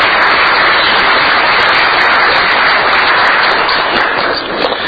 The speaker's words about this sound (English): So please give a round of applause for our head table.